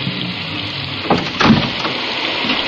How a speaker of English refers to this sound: I never did like rain.